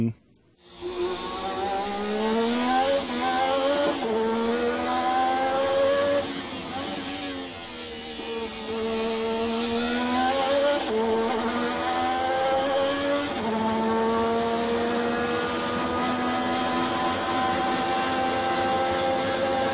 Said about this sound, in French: parce que c'est quel moteur ? V6 turbo.